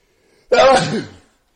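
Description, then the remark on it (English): A single loud sneeze bursts out abruptly, a short sharp explosive blast that fades within about a second, with silence on either side. “While my tea is heating up, I'm going to have some woman sneeze.”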